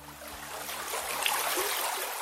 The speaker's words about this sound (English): The headwaters of the Yakima River begin high up in the Cascade Mountains, here at a stream called Gold Creek.